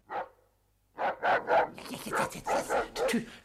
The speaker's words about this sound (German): dass der Tyras, ein Wolfshund aus dem Vorderhaus, sich veranlasst fühlte, auch wieder zu bellen